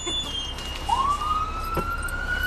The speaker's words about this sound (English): As we're talking, sure enough, the klaxon goes off. That a call? Sometimes, yes.